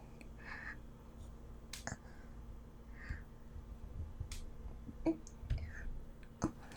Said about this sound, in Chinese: 笔掉了。不用，我来捡吧。